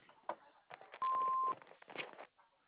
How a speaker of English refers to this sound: At the beep, please leave your name, message, and phone number.